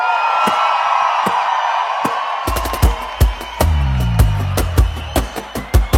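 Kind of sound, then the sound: crowd, crowd clapping and shouting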